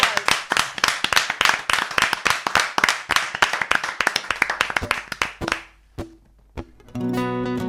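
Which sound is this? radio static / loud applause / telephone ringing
loud applause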